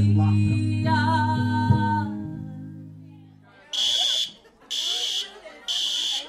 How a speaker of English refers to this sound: About halfway through the show, the fire alarm goes off. Everyone shuffles outside. There's no sign of a fire, so people gather just outside the entrance.